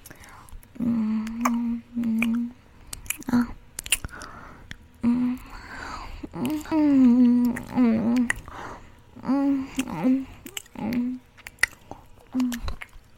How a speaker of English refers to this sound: My trademark finger sucking sound. I don't know if any of you guys have ever seen me do it, but I've done it before.